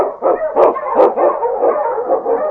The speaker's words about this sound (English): The Wonder Dog King, swiftest and strongest of Eskimo dogs, blazes the trail through storm and snow for Sergeant Preston as he meets the Challenge of the Yukon.